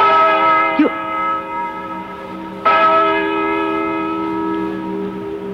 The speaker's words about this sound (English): Listen to that bell. Six. Seven. Eight.